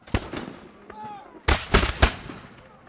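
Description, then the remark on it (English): Black powder muskets and cannon fire with real gunpowder in a ragged volley at a battle reenactment at a fort: about five sharp, booming reports at uneven intervals, loud, with a faint murmur of voices between the shots. “It's real gunpowder, so you want to be safe.”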